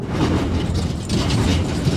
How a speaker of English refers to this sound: Driving onto the car deck of the Fast Ferry Fairweather usually brings clanks and clunks as metal meets metal. But you can't hear that noise now, and may not for the foreseeable future.